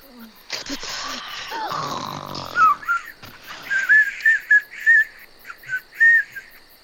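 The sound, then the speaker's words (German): Baby elephants snoring on the steppe at night: a rasping, snore-like rumble gives way to a string of high, whistling squeaks, repeated in quick, uneven bursts, like playful whistling snores. “Der Wind weht leise durch das Steppengras und kitzelt schnarchende Elefantenkinder im Rüssel.”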